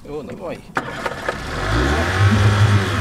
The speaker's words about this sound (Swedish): På avstånd hörs ljuden av vägen mellan Kiruna och Nikkaluokta.